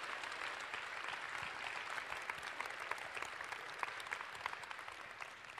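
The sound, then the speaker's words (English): Steady applause from an audience at a Mime Festival show for the show's director and creator, Aurélien Bory, many hands clapping in a dense, even wash of sound that holds at a constant level throughout with no voices standing out. “Well-deserved applause, I completely agree with you.”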